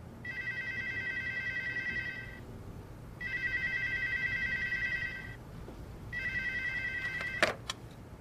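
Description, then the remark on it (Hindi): A telephone rings in three long bursts with pauses between, a steady electronic warble that goes unanswered, ending with a couple of faint clicks near the close. “फिर कोई उठा नहीं रहा।”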